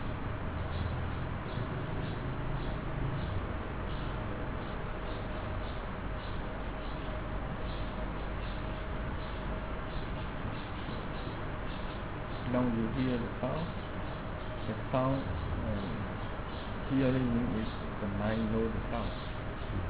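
Birds chirp faintly in the surroundings, with a few short calls clustering in the second half over a steady, low background hum.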